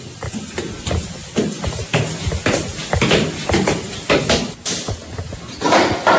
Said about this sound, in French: Ferme la porte ici, vous.